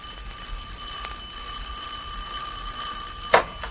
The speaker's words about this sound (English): Don't you ever answer the doorbell? Yes, when it rings. Sometimes it doesn't. It's erratic.